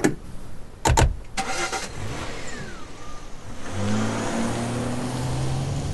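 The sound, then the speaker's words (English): A car engine cranks and catches after a couple of sharp clunks, then settles into a steady hum that rises as the car pulls away to drive a woman back down to the bus station, moderately loud, with no talking. “Well, get in, girl. I'll drive you back down to the bus station.”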